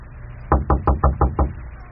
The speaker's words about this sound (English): Let us go now into her chambers. Wait. Becky must knock.